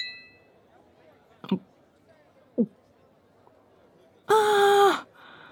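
Two brief, sharp clinks of glasses knocking together in a toast about a second apart, followed by a loud, drawn-out vocal exclamation of "cheers" in Japanese over quiet background murmur.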